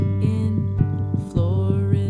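A recorded human heartbeat: soft, low thumps in a steady rhythm, set under a sustained humming musical tone that carries on throughout with no voices.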